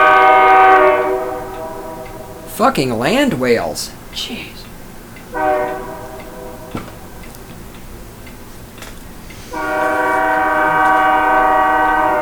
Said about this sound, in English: Jesus Christ, train. We know you're there.